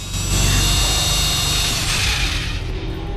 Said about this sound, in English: then drills the first hole.